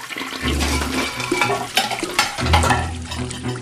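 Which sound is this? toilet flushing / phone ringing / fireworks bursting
toilet flushing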